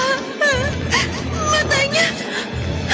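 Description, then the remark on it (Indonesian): An eerie, wavering wail that rises and falls in pitch, drawn out for a few seconds over a murky, rumbling background, like a ghostly crying moan: the crying of a badly wounded female figure standing in front of a bedroom. “Matanya menatap kosong padaku sambil terus terdengar suara tangisan.”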